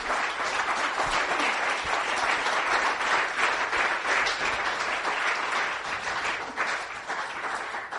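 A crowd applauds steadily for about eight seconds, a dense, even wash of many hands clapping at a constant loudness, with no one speaking over it.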